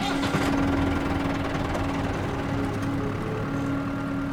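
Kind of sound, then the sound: vehicle, tractor engine running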